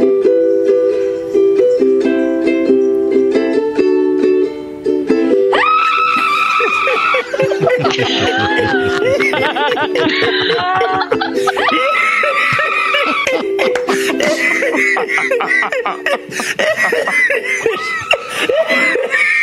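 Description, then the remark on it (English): A woman, a teacher in isolation during the pandemic, screams in frustration loudly and almost without pause, her voice wavering and breaking through shrill, strained cries and gasps, with no words spoken. “Just screaming.”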